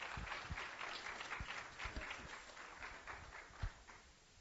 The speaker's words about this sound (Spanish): Y vamos a darle un fuerte aplauso a los pastores.